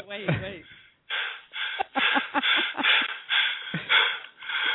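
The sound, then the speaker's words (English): Heavy, rapid breathing, starting with a voiced gasp and then a run of loud, rhythmic panting breaths with a muffled, tinny quality. “And you have the breathing?”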